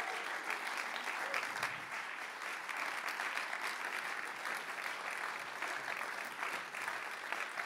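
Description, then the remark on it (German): Steady applause from a seated church audience, encouraging four people called to the front. Dense clapping holds at an even level for several seconds without a break. “Von euch ruhig mal einen Applaus zur Ermutigung.”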